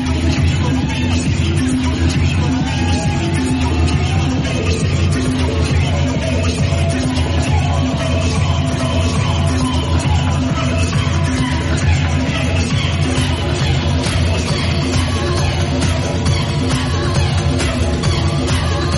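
A huge crowd roars and cheers in a dense, continuous wall of noise, loud and close, with many voices blending together and no break across the whole stretch.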